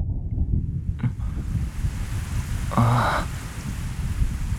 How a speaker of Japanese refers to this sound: 雨が降ってきた。